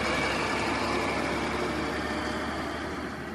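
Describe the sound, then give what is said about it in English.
A steady, low truck engine rumbles continuously at moderate volume on a road with sparse traffic near a small workers' town of about 3,000 people, with a broad wash of road noise and no other vehicles or voices standing out. “Traffic is pretty sparse right now”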